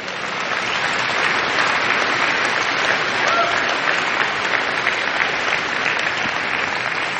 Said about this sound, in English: That's okay to be clapping right now. That's what you ought to be doing.